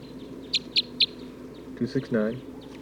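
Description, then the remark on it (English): A bird, recorded as bird 269, calls with three short, high-pitched chirps at an even, quick pace over a steady low hum, then a brief, lower-pitched harmonic sound follows. “Recording bird 269.”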